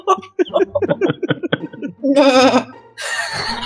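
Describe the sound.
Brief chatter gives way to two loud, wavering goat bleats, one after another, most likely a person's voice imitating a goat, quivering.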